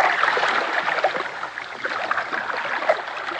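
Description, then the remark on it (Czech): A boat pushes steadily through icy water among large chunks of ice, with a constant broad rush and churning splash filling the scene, fairly loud, with small irregular surges but no voices. “Pokračovali jsme v naší plavbě. Všude kolem nás byly velké kusy ledu.”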